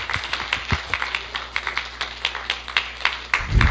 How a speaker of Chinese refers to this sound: 好，谢谢。谢谢。让我们再一次用掌声感谢